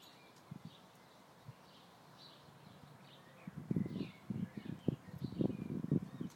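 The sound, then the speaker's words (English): Faint birdsong of a blackbird, with short whistled phrases repeating throughout, and a second blackbird answering it. In the second half, louder low thumps and rustling partly cover the song. “There's a blackbird.”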